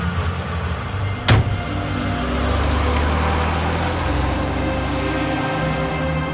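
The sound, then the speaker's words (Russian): A car engine idles with a steady low rumble, broken early by a sharp click, followed by the continuous whir of a power window sliding. No one speaks. “Все-таки лучше бы вы сели в машину.”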